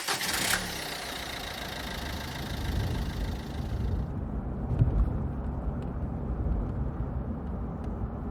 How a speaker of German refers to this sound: Sofort setzte sich der SUV in Bewegung.